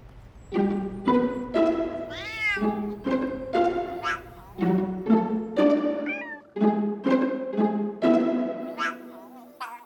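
A cat meows over and over, about a dozen close, loud calls in quick succession, some sliding up or down in pitch, with no other sounds around them.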